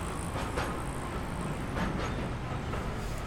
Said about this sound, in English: You know, even the The cars, the buses, the transport make the most amazing sounds to sample, you know? Listen to this train coming past. This is what I'm talking about.